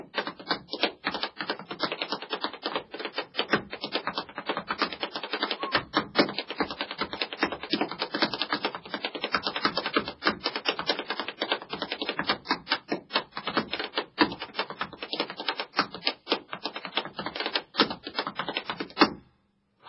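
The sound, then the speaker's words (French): Tap dancing on a small piece of wood: a rapid, nearly continuous stream of sharp, bright clicks and heel taps with shifting rhythms and accents, going on alone for about twenty seconds before stopping abruptly. “On peut écouter, là, maintenant, votre tap fait.”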